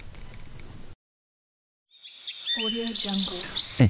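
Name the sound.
forest ambience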